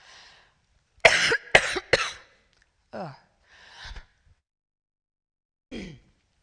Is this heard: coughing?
yes